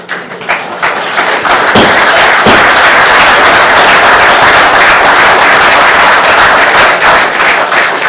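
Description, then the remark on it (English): An audience at a county council meeting in Sussex bursts into applause after a speaker, many hands clapping in a dense, loud, crackling wash that builds quickly and holds steady for several seconds with no voices over it. “For those of you who weren't here last week, there will be no more applause, no more anything.”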